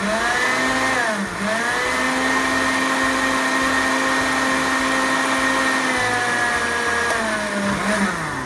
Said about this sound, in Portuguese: Eu deixei de molho ontem à noite, agora estou pegando aqui e vou simplesmente colocar a semente de abóbora e a água que estava de molho nesse liquidificador. E vamos bater. Bate muito bem.